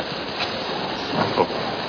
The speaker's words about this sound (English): The train is leaving.